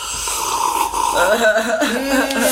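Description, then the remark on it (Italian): A loud, drawn-out slurping sip of sparkling wine, done deliberately noisily, with a wet airy hiss and gurgling that wavers in pitch for a couple of seconds. “Però sorseggiamo. Ci sono anche quattro cani, magari ci aiutano. Lo facciamo rumorosamente?”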